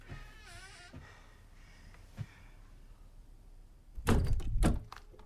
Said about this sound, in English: She closes the door behind her.